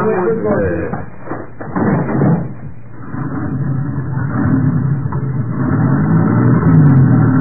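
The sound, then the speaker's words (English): A big truck's engine rumbles steadily, then swells louder with a rising drone as it pulls away, muffled voices briefly heard over it early on. “The truck is big, but that cab is small.”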